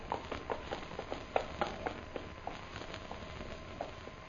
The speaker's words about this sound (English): Look. Horse come there. Yeah. But we can't make out who's riding.